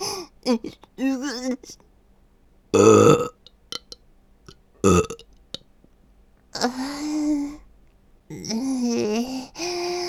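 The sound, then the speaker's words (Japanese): A loud burp rumbles out, followed by a shorter second one, set between stretches of a man's voice talking and groaning. “ゲップが出ちまった。”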